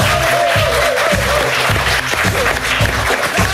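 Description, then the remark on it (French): An audience applauds a speaker being introduced at a boxing-themed debate on investments, clapping steadily for a few seconds, a dense, loud wash of many hands with a faint tonal note running beneath it early on. “On l'applaudit.”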